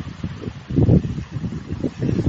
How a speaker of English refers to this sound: Anyway, I'm going to sit quietly for a minute and let you guys just listen to the waves as they're going by.